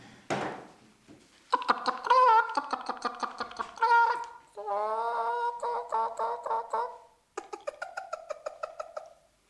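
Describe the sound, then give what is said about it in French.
A voice imitates a hen cackling after laying an egg: loud bursts of rapid clucks rising into drawn-out squawks, repeated in several rhythmic runs with brief pauses between them. “Je vais commencer par la poule qui a fait l'œuf.”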